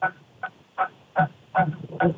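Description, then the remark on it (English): A seagull calls repeatedly outside by the ocean, up toward Washington: a quick series of about six harsh, squawking cries at a steady rhythm, fairly loud, with no voices. “Is there a seagull outside? What's that noise?”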